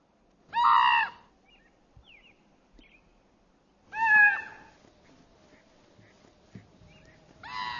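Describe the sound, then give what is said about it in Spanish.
A mother puma with her cub snarls at a raven in Yellowstone National Park in three loud, harsh, strained bursts spaced a few seconds apart, with faint rustling and quiet calls in the gaps. No one speaks. “Los avances del cuervo irritan a los dos.”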